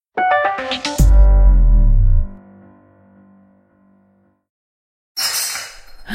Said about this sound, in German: ich glaube, ich habe deine Lieblingsvase zerbrochen. Ach du Scheibenkleister. Tut mir echt leid.